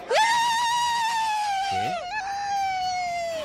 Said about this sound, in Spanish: son dos señoras, creo que de Villaseca de la Sagra, ajá, a las que la tele entrevistó en pleno encierro taurino. A ver, ¿cómo es el grito ese que hacéis cuando vienen los toros?